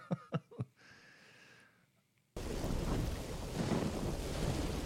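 A few sharp cracks and a faint hum give way to a sudden, loud wall of crashing storm noise, thunder rolling under steady heavy rain.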